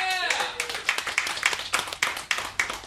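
An audience breaks into steady applause to vote for a favorite reader in a round-one contest, many hands clapping in a dense, fairly rhythmic patter, with a brief cheering voice at the very start. The clapping is moderately loud and continues throughout.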